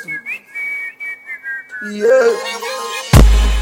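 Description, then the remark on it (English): A person whistles a short, bright tune in a steady phrase, then backing music swells in beneath it and ends on a sudden loud, booming hit. “You too fine girl, I go blow you whistle.”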